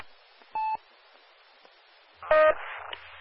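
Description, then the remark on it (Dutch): Over a steady radio hiss, a radio repeater tone beeps once during a test via the repeater in Meppel, then after a pause a second, slightly lower tone sounds with a crackle of static trailing after it. “Dit is dan waarschijnlijk de toon die jullie gehoord hebben.”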